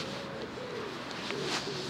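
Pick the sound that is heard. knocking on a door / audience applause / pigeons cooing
pigeons cooing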